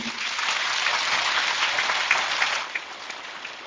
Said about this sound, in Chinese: 大家看见了吗？鼓掌声明显的就响起来了。